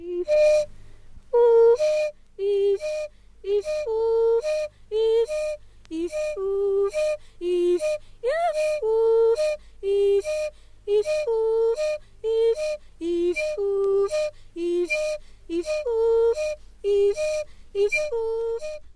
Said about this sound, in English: A man who is whistling one single note, mm-hmm. and all the other notes he is singing. Yes, between. Alternately, mm-hmm. yeah.